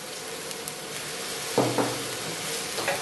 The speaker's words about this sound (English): But it's just constant stirring and bunawing and creating the delicious keema pav. And if you see that the water has dried up, you can add a little bit more.